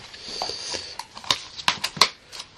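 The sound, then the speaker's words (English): A whole deck of playing cards being shuffled, with a quiet rustle followed by a quickening run of crisp, irregular snaps and flicks. “We're shuffling the whole deck of cards now.”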